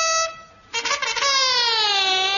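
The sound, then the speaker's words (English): An alarm horn, sounded to warn that the enemy is approaching, blares a loud buzzy, harmonic tone that briefly dips, bursts into a rough, noisy wail, then settles into a long sustained note sinking slowly in pitch. No one speaks. “Sound alarm is good.”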